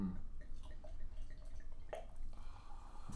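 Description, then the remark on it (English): Duvel Belgian Golden beer glugs steadily from a 750 milliliter bottle into a glass, a continuous low liquid gurgle with a few brief splashy drips and fizz, no voices. “As soon as I get done pouring this, I'll tell you a little bit more.”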